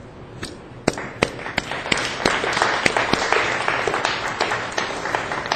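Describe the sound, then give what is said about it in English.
A crowd applauds young people steadily, many hands clapping in a dense wash with a few sharper individual claps popping out, holding at a fairly even loudness throughout. “Let's applaud young people.”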